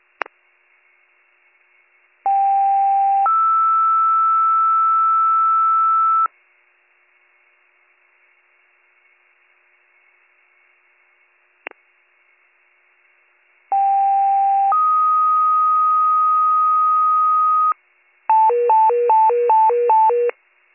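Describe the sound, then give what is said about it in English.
Two-tone fire dispatch pages over radio retoning Station 72 Fire to send one engine on mutual aid to an audible fire alarm at 80 Front Street: a short lower tone stepping up to a long steady higher tone, repeated after a pause, then a rapid alternating warble, with faint radio clicks between. “Station 72 Fire with a retone requesting for one engine to respond mutual aid in the Belvedere, 80 Front Street for the audible fire alarm.”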